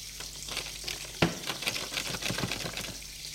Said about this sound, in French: Furieux, il va prendre sa douche. Lorsqu'il prend sa douche,